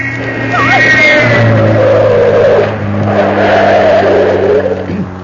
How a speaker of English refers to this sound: Hello, somebody's in a hurry. It's a sports car. It's an enormous thing. He's trying to pass you. He can't. There's a railway arch ahead. Oh, pull over,